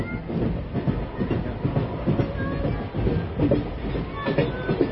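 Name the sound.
train riding on rails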